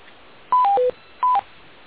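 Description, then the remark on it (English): Telephone keypad tones as someone on a conference call presses keys trying to unmute their phone: a quick run of three beeps, a short pause, then two more, clear, with no one speaking. “There might be someone trying to unmute.”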